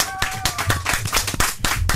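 An audience at a live Chéri FM radio broadcast applauds steadily as a singer is introduced to perform, many hands clapping in a dense, crackling wash that stays loud throughout, with a faint whistle-like tone briefly riding above the clapping near the start.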